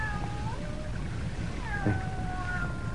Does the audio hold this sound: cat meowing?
yes